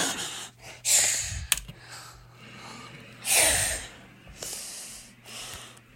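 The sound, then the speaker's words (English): A voice imitates snoring with several breathy, snorting inhales and exhales at an uneven rhythm, moderately loud, with no talking. “And she snored.”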